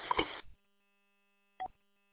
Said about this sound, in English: Do you have a timeout timer on that radio? Is that what I keep hearing chirping?